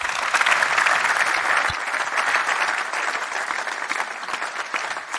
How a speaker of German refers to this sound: Wir haben 150 Gäste, beziehungsweise wir sind Gäste heute beim Main Event des Business Circle Events hier im BMW-Park. Was uns natürlich riesig freut, euch alle hier begrüßen zu dürfen. Gebt euch mal selbst einen dicken Applaus für.